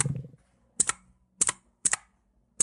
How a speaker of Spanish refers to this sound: El grupo se reúne en el aula de robótica. Se escuchan sonidos de máquinas y teclados.